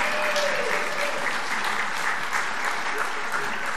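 An audience applauds a woman being thanked for 70 years of ministry, a dense, even wash of many hands clapping at the same level throughout, with no voices standing out above it.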